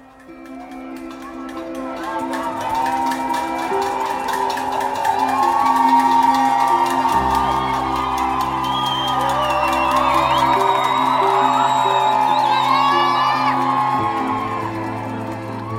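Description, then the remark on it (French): A large crowd shouts, whoops and cheers continuously at midnight to launch a strike, with pots and smoke flares, many overlapping voices rising and falling over a steady low hum, loud for the whole stretch. “On a poussé des grands cris et c'était vraiment, vraiment, vraiment super.”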